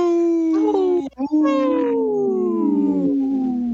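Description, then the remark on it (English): A person howls like a wolf, two long, loud, drawn-out wavering cries, the second sliding slowly downward in pitch after a brief break. “I wanted to get Dr. … to howl.”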